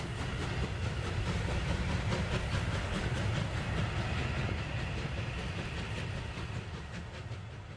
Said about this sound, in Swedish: Ja, det är ett lok. Det finns tre sådana kvar i världen.